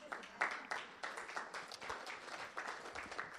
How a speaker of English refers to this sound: Let me make sure, you can clap for that.